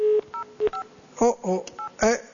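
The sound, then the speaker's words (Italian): Touch-tone beeps of a phone number, picked from a phone directory, being dialed, a quick series of short dual-pitched tones, clear, with a steady tone and brief voices in between. “sto guardando il luogo dove sto telefonando, perché io prendo i numeri ma non so affatto niente”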